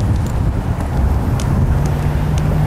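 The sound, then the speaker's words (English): Steady, loud low rumble of street traffic passing in front of a pedestrian at an intersection crossing, moving from left to right, with engine drone and wind noise blending into a continuous roar, no voices. “You can hear the traffic's in front of me, going from left to right.”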